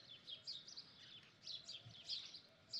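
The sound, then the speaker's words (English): Soft, high morning birdsong with several birds chirping and twittering in quick, overlapping bursts, coming and going continuously against a quiet outdoor background. “and the wind caressing your body, and the coolness, and the chirping, joyful mornings of the birds.”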